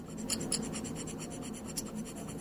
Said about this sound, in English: All right, so these little scraper tools, what do they sound like?